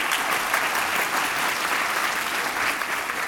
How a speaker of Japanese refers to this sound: それでは続けて、野茂英雄様から一言ご挨拶をお願いしたいと思います。よろしくお願いいたします。皆様拍手をお願いいたします。